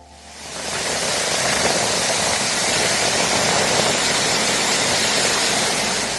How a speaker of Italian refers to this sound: Il suono della pioggia torrenziale a Dubai, che ha aperto strade, voragini, fermato aeroporti e inondato centri commerciali.